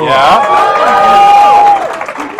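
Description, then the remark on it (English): A large crowd cheers loudly, with one long, high whooping cry rising above the noise before the roar fades after about two seconds. “Pack a big crowd.”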